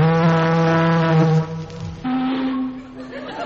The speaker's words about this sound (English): Sound the siren, Chief. Oh, sir. Now, isn't that odd? There was an echo. Try it again.